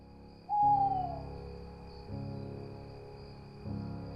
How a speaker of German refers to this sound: Es ist 9:15 und das war das, was da so ein bisschen unheimlich im Hintergrund spukt. Das sind dieses Geräusch von Eulen.